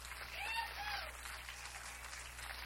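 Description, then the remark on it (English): An audience applauds performers being welcomed onto the stage, a steady, dense patter of clapping that holds for the whole moment, with a brief faint whoop or cheer rising over it early on. “Let's clap them on the stage.”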